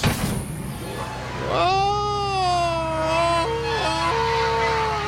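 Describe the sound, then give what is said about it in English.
A man belts out an imitation of a Tarzan yell: one long, high, wavering cry that breaks back and forth between pitches in a yodel-like warble, preceded by a brief rumble of noise. “That's my Tarzan yell.”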